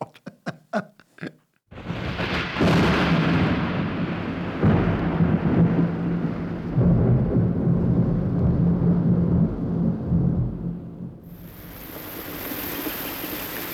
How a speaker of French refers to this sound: Tiens, voilà la pluie. Ah, quel sale temps !